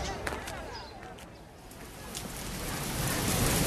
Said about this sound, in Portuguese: A tarde parece chuvosa, contrariando o dia ensolarado gozado durante a manhã. A força das águas da chuva é tanta que provoca erosão em boa parte da vila.